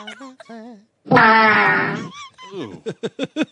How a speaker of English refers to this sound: He had a ducky fart.